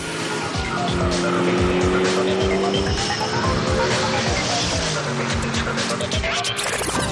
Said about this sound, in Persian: و مرسدس بنز SLS AMG 2014 سری بلک واقعا داره با سر و صدا بیرون میده. مهندسان AMG اسباب بازی یک آدم پولدار رو گرفتن و ابر ماشینی رو که توش بوده آزاد کردن. این اتومبیل سیاه جدید قطعا هر جا که بره توجه همه رو جلب میکنه.